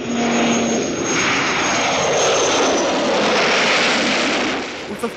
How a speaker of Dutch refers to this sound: Wat was dat? Een vliegtuig, dat scheelde maar een haartje.